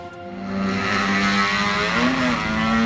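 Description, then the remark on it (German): A motorcycle engine revs hard and loud at full throttle, its harmonic whine climbing and holding steady for a few seconds, with no talking. “So kann sich das anhören, wenn Motorradfahrer voll aufdrehen oder auch den Auspuff manipuliert haben, damit sie besser und lauter zu hören sind.”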